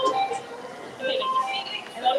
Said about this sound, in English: You hear the beep beep? Oh, yeah. Let's get it. All right. Amazing that I still have funds on this card, the infrequency that I take that train.